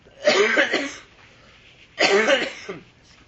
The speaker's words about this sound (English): Don't worry. Cough as much as you like. Don't be troubled.